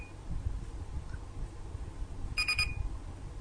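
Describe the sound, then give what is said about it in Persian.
A short electronic beep from pressing the volume button on a device that also displays temperature, a bright pulsing tone with harmonics lasting about a third of a second, sounding over a low steady background hum. “حالا من اول کلید ولوم رو میزنم، به این نوع صدا میکنه، گوش کنید.”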